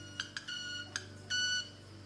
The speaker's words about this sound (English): Oh, that is awesome. Club-winged manakin doing its display right in front of us here on an open branch.